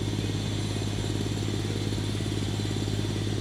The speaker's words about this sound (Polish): Modernizacja odcinków Chybie-Nędza-Turze oraz Toszek Północ-Stare Koźle to część Krajowego Programu Kolejowego. Posłuchaj, co dzieje się na budowie.